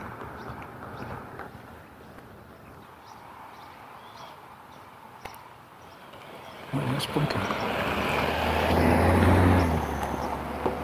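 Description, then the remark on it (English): A car approaches along a road, its engine and tire noise swelling over a few seconds into a loud, low rumble as it drives past, then easing off slightly. “A nice car like that would have blinker lights.”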